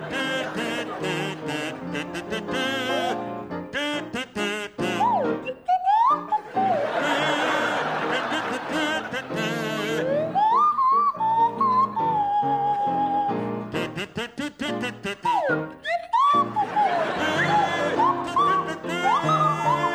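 A buzzy kazoo and a sliding Swanee whistle play a jaunty tune together, the whistle swooping up and down in pitch, with what may be audience laughter underneath.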